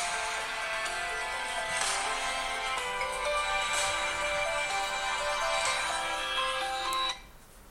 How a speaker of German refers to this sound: Und jetzt läutet mein Handy.